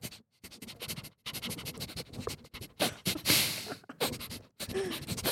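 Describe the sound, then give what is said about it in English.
A voice imitates a dog sniffing someone's ear, with rapid bursts of breathy, snuffling air broken by short pauses, rising into a louder hissing rush near the middle before more quick sniffs. “This is dog sniffing your ear.”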